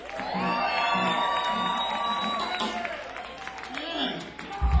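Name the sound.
crowd screaming and cheering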